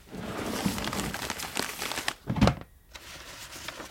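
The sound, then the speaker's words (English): Dry, crackly rustling of old paper scraps and rubbish from a centuries-old rat's nest being handled, with steady crinkling, a louder scrunch near the end, then a brief quiet pause before soft handling resumes. “It is a small fragment, I would think, of paper.”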